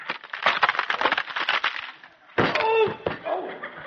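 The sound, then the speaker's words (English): A wooden chair, just repaired with a few taps of a hammer, cracks and splinters in a rapid run of loud snaps for about two seconds, then gives way with a sudden crash followed by creaking, groaning wood. “This chair isn't any good anymore.”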